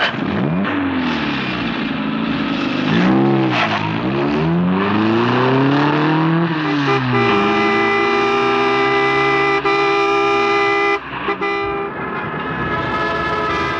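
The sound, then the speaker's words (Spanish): Car horns blare and honk repeatedly in busy street traffic as a car zigzags between other cars, provoking protests, with a long sustained horn blast dominating the second half, over the rumble and revving of passing vehicles. “No vuelve siquiera la mirada, sino que se impulsa zigzagueando entre carros y provocando protestas a su paso.”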